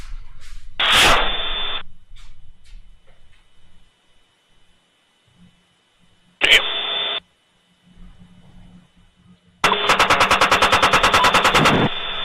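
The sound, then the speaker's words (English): Bursts of rapid automatic combat gunfire as Taliban fighters are shot at, first a short rattle, then another, then a long sustained volley, with muffled radio chatter and voices talking in the gaps between. “Go ahead and enjoy some Taliban fighters getting schwacked while I take care of that.”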